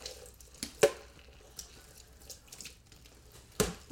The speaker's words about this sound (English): Let's quickly rinse those off. You do the next one, I'll rinse. Hang on. I'm washing off the quilt.